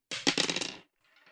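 Dice clatter across a hard table in a bright burst of rapid rattling knocks, then a brief pause before a fainter trailing rattle as one die keeps rolling; the dice show a total of 9.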